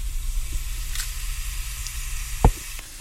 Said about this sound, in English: The ghee has started warming up. You can see small bubbles coming at the bottom, so you know the ghee is ready.